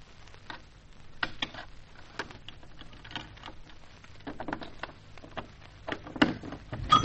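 key rattling

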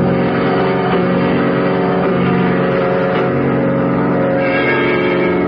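car engine driving away

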